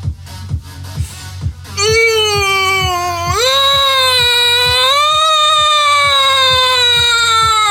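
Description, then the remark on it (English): A voice wails a long, loud, sustained tone that steps up in pitch partway through and holds, mimicking a European two-tone ambulance siren over a steady thumping beat. “Now you sound like an ambulance in Europe.”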